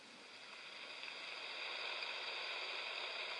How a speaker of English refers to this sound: This is the sound of the poplar trees moving in the wind. It is called popling.